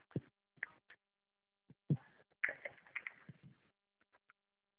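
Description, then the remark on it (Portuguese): Quiet handling noises as a pen is picked up: a few brief clicks and taps, then a short stretch of rustling and light knocks, with no one speaking. “Deixa eu pegar aqui a caneta.”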